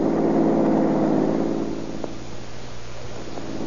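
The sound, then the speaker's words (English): A car engine hums steadily, then eases down in pitch and volume as the vehicle slows and pulls to a stop behind a parked red coupe at a white apartment house in the middle of a block. “Pull in behind this red coupe car.”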